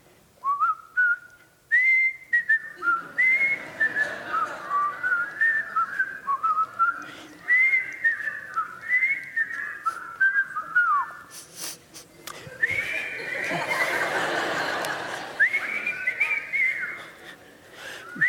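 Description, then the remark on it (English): A group of people whistles a song together, a clear, continuous melody of rising and falling notes that carries on for the whole stretch, briefly blurred by a breathy rush of noise near the end. “So like when I was growing up in the 1960s, everyone I knew this song and could actually whistle along with it. If you know this song, join me.”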